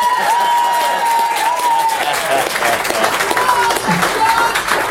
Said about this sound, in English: a big round of applause